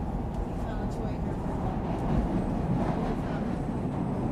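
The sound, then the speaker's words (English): A Chicago elevated train sits at a station stop, a steady low rumble and hum, with a faint muffled announcement: doors closing, doors open on the left at Lake, transfer to Orange and Pink Line trains. “Doors closing. Doors open on the left at Lake. Transfer to orange and pink line trains at Lake.”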